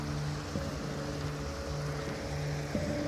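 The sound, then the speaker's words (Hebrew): Drinkable spring water pours steadily from a pipe stuck into a rock, a continuous rushing and splashing that stays even in loudness throughout, with a faint low hum underneath and no voices. “זה צינור כזה שתקוע בתוך הסלע, והוא פשוט מביא מים החוצה, וזה מים שהם טובים לשתייה.”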